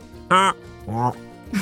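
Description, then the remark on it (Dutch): A voice imitates a cackling flamingo call: two loud, nasal honking bursts, the first sharper and higher, the second lower and drawn out, then a brief trailing sound. “Een beetje kakelend is het.”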